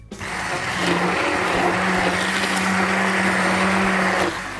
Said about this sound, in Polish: nam tu już blenduje ciasto na nasze naleśniki